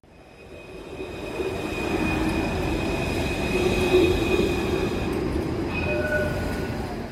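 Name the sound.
train moving along rails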